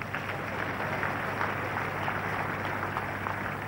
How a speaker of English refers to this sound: Let's clap for Jesus.